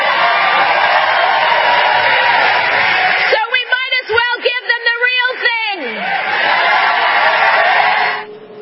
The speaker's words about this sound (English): The crowd cheers.